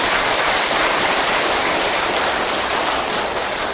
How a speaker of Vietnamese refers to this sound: Đó, vậy mới là giỏi đó, cho anh tràng pháo tay coi.